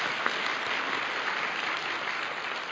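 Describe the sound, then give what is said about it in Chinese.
Sustained applause from a church audience for everyone who serves in the church, a dense, steady wash of many hands clapping at even loudness throughout, with no voices rising above it. “好吧，为每一位参与服事弟兄姐妹鼓掌好吧，包括你自己在内哈。”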